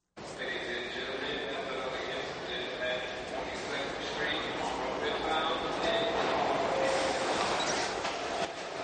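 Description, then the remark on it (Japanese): A New York subway train rides from Manhattan toward Brooklyn with a steady, loud rumble of wheels on track and thin, high metallic squeals drifting in and out, while muffled voices murmur in the car. “さあ、じゃあここでまた地下鉄に乗って、今度はマンハッタンのお隣の区、ブルックリンに行ってみようかな。”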